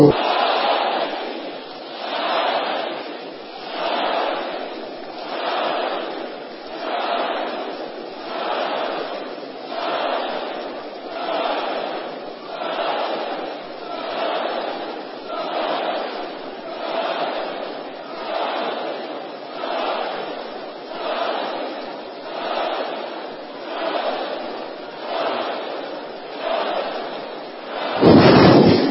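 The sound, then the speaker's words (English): An audience shouts the prayer "blood of Jesus" together in loud unison, repeating it over and over in a steady rhythm about 21 times while striking their bodies, ending with a sudden louder burst. “If you have any infirmity in any part of your body, smite it 21 odd times while shouting, blood of Jesus.”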